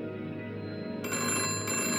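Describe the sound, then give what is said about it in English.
A telephone bell rings steadily, its bright metallic trill sustained and fairly loud, growing sharper and fuller halfway through. No voices are heard. “The telephone rang, and the glass of bourbon slipped from my fingers, shattering in a mosaic haze.”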